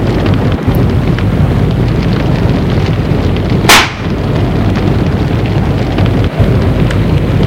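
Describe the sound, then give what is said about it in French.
A steady, loud wash of rain and wind fills the whole stretch, with a brief sharp crack of thunder bursting through near the middle. No one speaks. “Là, elle voit au milieu des éclairs un grand homme habillé du capelin noir et d'un grand chapeau à large bord.”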